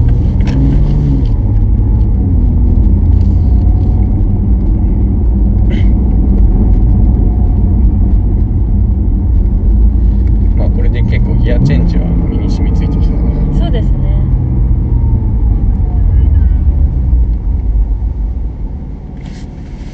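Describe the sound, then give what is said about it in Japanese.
A loud turbocharged car engine drones and pulls hard, its pitch climbing and dropping as it accelerates through gear changes, easing off in the final seconds, with faint voices underneath. “でなってる間は、まあ、一応燃料燃えてることになるんで、 はい、 ターボは回ったまま、 うん、 アクセルまた踏むとすぐにグッて加速してくれる。”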